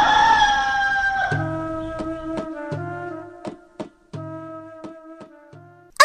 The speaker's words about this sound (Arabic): خاف الديك صاح ينادي لنور الصبح وشمس العيد.